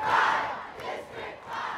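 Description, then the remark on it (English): A large rally crowd chants "District 5" in unison to greet Congressman John Lewis after the rain cleared, the massed voices swelling and dipping in a steady rhythmic pattern, loud and blurred together with no single voice standing out. “As the rain cleared, speakers began to rally the crowd, including Congressman John Lewis, who was greeted with chants of District 5, which he represents.”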